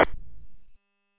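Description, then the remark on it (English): A short, harsh electronic beep, a Roger beep or squelch tail, marks the end of a radio transmission from a Baofeng UV32 on a Baofeng DX-8HP Pro, followed by a low rumbling burst of static that fades and cuts off abruptly after under a second. “Also, I noticed that it sounds like you have some form of weird Roger beep or squelch tail on the end of your transmit.”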